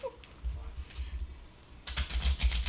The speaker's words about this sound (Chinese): 呢鋪嘅好， 我哋洗牌啦。 係，跟住我哋就揀曬呢七。 好， yeah. 洗牌。